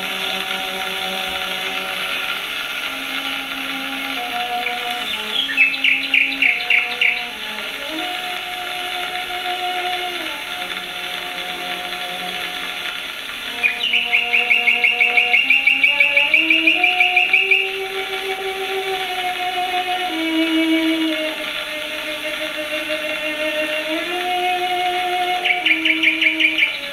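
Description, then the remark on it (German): A slow cello melody plays over a hissy, old-sounding 1927 recording while a nightingale joins in with rapid, bright trilling bursts three times, each lasting a few seconds. No one speaks. “Das ist also aufgenommen, dieses Cello, mit dieser Nachtigall.”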